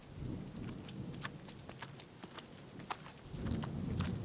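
Steady rain pours down with sharp drips and splashes, while a low, distant rumble of thunder rolls underneath, swelling near the start and again toward the end. No voices are heard.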